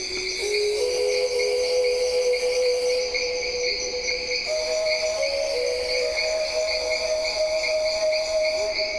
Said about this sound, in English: it begins with sounds that I recorded in the Amazon at a place called Kilometer 41, which is a research station north of Manaus, which is kind of midway in the Amazon.